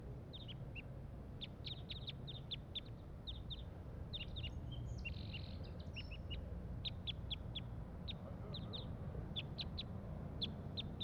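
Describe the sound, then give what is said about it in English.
A single wild crossbill up in the top of a pine tree gives repeated short, sharp high-pitched calls in quick clusters, fairly faint over a steady low rumble of background noise, with no voices. “There is one wild crossbill here up in the top of this pine tree. And this is it giving calls.”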